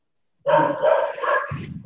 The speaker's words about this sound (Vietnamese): Nghe không có rõ, bác có thể nhắc lại giùm, tại như có con chó nó sủa nó nghe không có được.